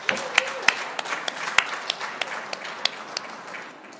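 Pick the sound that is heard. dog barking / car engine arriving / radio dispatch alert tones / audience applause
audience applause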